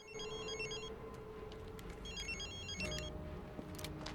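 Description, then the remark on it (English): Mr. Bennett's mobile phone rings with two bursts of a bright, trilling electronic ringtone, separated by a short pause, heard over a steady background rumble. No one speaks. “Mr. Bennett's phone begins to ring.”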